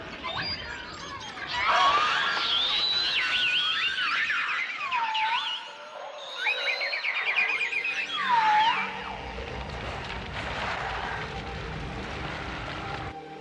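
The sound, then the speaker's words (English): Beluga whale vocalizations: loud, high squealing whistles that swoop up and down, mixed with chirps and buzzy trills, followed by a stretch of softer crackling noise. No one speaks. “But it's exactly what is required for polar bears, ring seals, and the snowy white beluga whales, the highly vocal canaries of the sea.”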